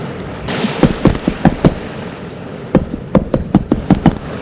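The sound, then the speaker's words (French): Someone knocks on a door in two rapid bursts of sharp raps, a short flurry followed after a pause by a longer run, fairly loud with no voices. “On a frappé à la porte.”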